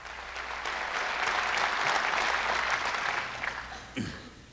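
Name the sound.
graduation ceremony applause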